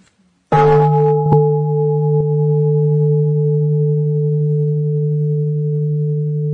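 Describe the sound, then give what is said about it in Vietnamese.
A Buddhist temple bell is struck once with a sharp onset, then hums as a long, steady, low tone with a clear higher overtone, sustaining for several seconds without fading much. “Và phải để cho người ta có thời giờ chuẩn bị, ngưng suy nghĩ và để tiếp nhận tiếng chuông.”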